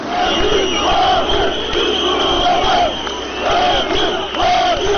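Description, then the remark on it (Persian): A large crowd of hundreds of angry protesters roars and shouts in loud, continuous waves, with rising and falling chanted cries cutting through a dense, churning wall of voices. They are supporters of a Turkish newspaper being dispersed by Turkish police with tear gas and water cannon for a second day. “برای دومین روز پیهم پلیس ترکیه صدها معترض خشمگین و هوادار یک روزنامه پرتیراژ را با گاز اشکاور و آب پاشها پراکنده ساخت.”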